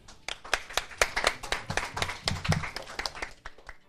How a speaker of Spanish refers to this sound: Muy bien, un aplauso.